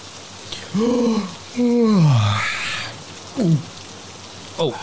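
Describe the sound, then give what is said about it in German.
Steady rain patters on a tent roof in a continuous hiss while someone lets out several drawn-out, sleepy groans and short falling vocal sounds over it, as two people wake up. “Nach einer kurzen Nacht mit wilden Träumen erwachten die zwei von Regen auf ihrem Zeltdach.”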